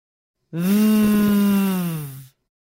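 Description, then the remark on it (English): A single sustained voiced English V sound, a long "vvv" held for nearly two seconds at a steady low pitch, made by biting the bottom lip and forcing the air out, loud and even with a rough, bee-like hum before it cuts off. “Have a go holding this sound for a few seconds and humming like a bee.”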